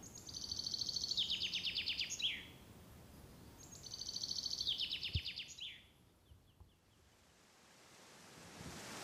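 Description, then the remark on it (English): A songbird on the hiking trail down the Karren mountain near Dornbirn, Austria, repeats the same bright, high trilling phrase twice, each a quick descending run of chirps, clear over a soft, steady outdoor hiss with no voices. “The birds were welcoming.”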